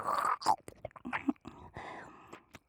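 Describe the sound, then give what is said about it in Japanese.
Wet chewing and mouth sounds made to build up saliva, soft smacks and squelches in an uneven rhythm, mixed with faint whispery breathing and no clear speech. “もぐもぐと咀嚼をすると唾液が分泌されますから、聞こえますか？”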